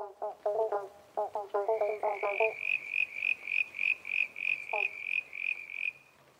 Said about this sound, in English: The pobblebonk frog, or eastern banjo, eats a variety of insects, worms, spiders, so it can be really a helpful addition for your garden. If you'd like to see an eastern banjo frog up close, a great time to find them is at night, straight after rain.